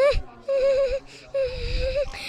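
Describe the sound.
A voice acts out a cartoonish pig crying: two long, wavering wails with breathy sobs between them, fairly loud, and no spoken words.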